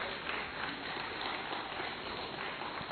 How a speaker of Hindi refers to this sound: आप थोड़ी तालियां हल्की बजाते हैं तो मुझे बार बार आपको बोलना पड़ रहा है.